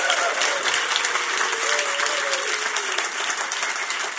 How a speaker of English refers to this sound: From this moment on, if you clap, your clapping will be heard in perpetuity whenever you want to play this for your grandchildren. So to help launch, just one more round of applause to get us started.